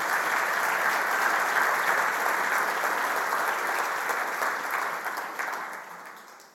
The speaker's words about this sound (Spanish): La razón por cual muchos aplauden es porque Cristo hizo eso en sus vidas. Esa es la razón por cual aplaudimos.